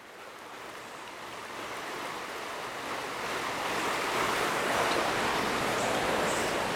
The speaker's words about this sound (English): I hope that you can hear this creek flowing. It's been raining, as I've said in other messages, and this water is flowing. I hope you can hear it.